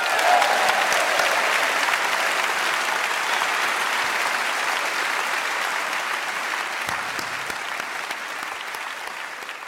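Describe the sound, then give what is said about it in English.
Sustained applause from a large live audience at I'm Sorry I Haven't a Clue Live for BBC Radio 4, clapping for themselves and the panel: a dense wash of clapping that holds steady for about ten seconds and fades slightly toward the end, with no speech over it. “A round of applause for yourself and for our fabulous panel.”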